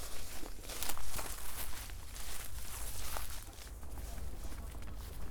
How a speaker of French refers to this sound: Là, nous sommes en pleine expédition. Dans la forêt du pont de Vincennes. Nous marchons dans les feuilles.